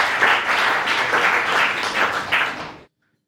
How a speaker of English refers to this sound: He's in the room somewhere. Yes. Round of applause